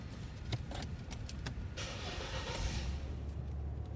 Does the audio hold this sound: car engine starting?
yes